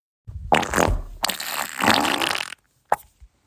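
A long, wet, sputtering fart rumbles and crackles for about two seconds in a reverberant, echoey space, followed by a couple of short, sharp pops.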